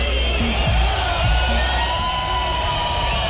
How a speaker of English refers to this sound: Yeah, big round of applause to the musical rapper.